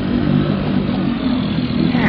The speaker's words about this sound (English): I'll give her the gun a little and then pull up the motor so we don't foul the propeller.